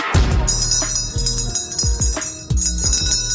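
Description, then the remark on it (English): An old-school bell rings loudly, its bright metallic tone sustaining over a series of repeated clanging strikes with a deep low resonance underneath. No one speaks. “Does anyone actually know where this bell came from? Very old school.”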